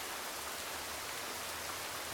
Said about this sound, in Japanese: 5月に降る雨。